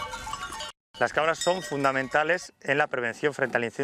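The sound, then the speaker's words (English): A herd of goats on the outskirts of Madrid, Spain, kept to graze away vegetation against wildfires, with bells clanking at the start, then a run of loud, wavering bleats in quick succession, one after another. “Goats are essential to prevent fires in a Mediterranean climate like Spain because they are the only ones able to feed on the leaves, fruits, and flowers of plants like this one.”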